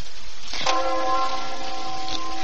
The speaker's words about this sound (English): Funeral bell. It fills my heart with fear whenever I hear it.